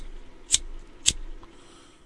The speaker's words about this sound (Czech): Slyšíte to? Ten oheň? Plápolající oheň, který zžírá hnusné noviny, které píšou naprosté blbosti? Slyšíte ten oheň?